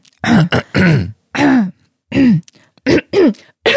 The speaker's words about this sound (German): Oder es ist einfach eine komische Angewohnheit von dir, dieses Räuspern.